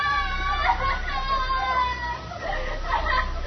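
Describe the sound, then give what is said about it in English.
A woman screams and wails, one of the others rather than Mrs. Foley's sister, her long, wavering cries rising and falling in pitch over a steady low hum, sounding muffled. “Oh, they scream because they remember things.”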